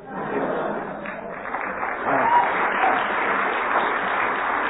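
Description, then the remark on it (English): A studio audience claps steadily, a dense, continuous patter of many hands that holds at an even level throughout, with faint voices and a brief cheer mixed into the applause. “But due to the audience's friendly applause in the middle there, you overran the 15 seconds.”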